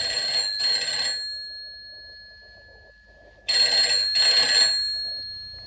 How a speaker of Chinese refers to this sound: 啊，大概是永瑜他们来电话了。